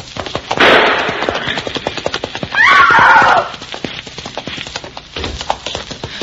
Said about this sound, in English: I cannot catch Zuleika on this horse. If you don't stop, I'll shoot! I will shoot your horse